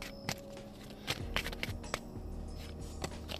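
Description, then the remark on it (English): The first deck of cards being shuffled six times, a series of crisp, papery snaps and riffling bursts at an uneven pace over a low steady hum, fairly quiet overall, with no one speaking. “Alrighty, so let's go ahead and get to shuffling again for this first deck.”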